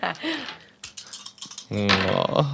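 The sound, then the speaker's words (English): A short burst of dice clattering across a table, a handful of quick, light clicks, with people talking just before and after. “Just a lot of dice rolls.”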